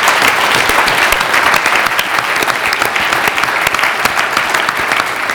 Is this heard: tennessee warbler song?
no